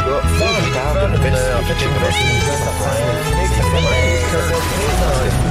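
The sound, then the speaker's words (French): A cat meows several times, its rising and falling cries woven into a loud, busy musical jingle, a programme's theme tune, that plays continuously underneath. “Clairement, il y a un chat qui s'est inséré dans l'indicatif”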